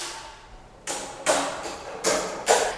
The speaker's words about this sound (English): opens up the door to a simple shrine.